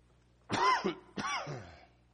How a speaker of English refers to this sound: And naturally, I haven't coughed all morning, and just now start to cough.